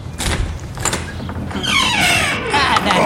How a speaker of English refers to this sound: Then, footsteps are heard along with sounds of annoyance emanating from a pissed-off elderly gentleman as he opens the front door.